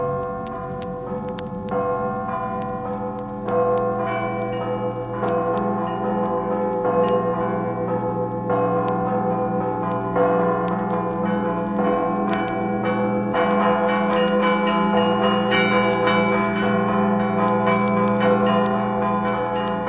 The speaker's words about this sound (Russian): Здесь вы услышите, что все это очень просто с ритмической точки зрения, но раскрывает огромные возможности перед звонарями, когда звон буквально плывет по небу, как такие звуковые облака.